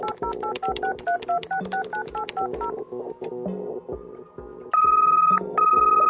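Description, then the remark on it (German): A rapid sequence of touch-tone beeps as a phone number is keyed in for a telephone call between Berlin and Moscow, each tone short and evenly spaced, followed by longer steady ringing tones on the line, clear with no talking. “Und im Jahr 2010 könnte dann zwischen Berlin und Moskau das folgende Telefonat geführt werden.”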